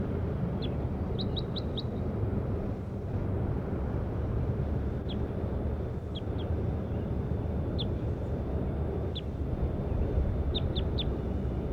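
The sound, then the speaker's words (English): Short, high-pitched chirps from a bird labelled 5-7 in a field recording arrive in scattered bursts, some as quick runs of three or four notes, over a steady low rumble of outdoor background noise. “Start recording bird 5-7.”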